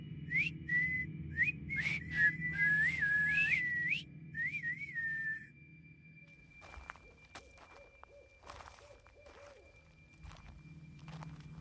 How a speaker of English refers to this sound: She joined in on the whistling.